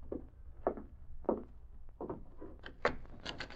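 A police sergeant opens a wooden door, which creaks in a series of short, groaning rubs, fairly quiet at first, then sharper, higher squeaks toward the end, with no voices.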